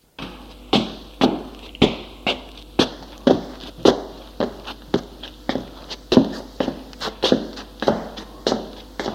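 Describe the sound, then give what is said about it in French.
Heavy footsteps of a tall, heavy woman in slippers walking at a steady, even pace, swaying as she goes, carrying a broom and a bucket; roughly sixteen dull thudding steps with a slight scuff on each, clear and alone with no talking. “En marchant, elle tangue, car ses grosses cuisses se cognent.”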